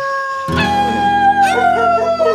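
Wolves howling in a loud, overlapping chorus, several long wavering calls rising and sliding in pitch together, with one voice swooping upward partway through. No one speaks.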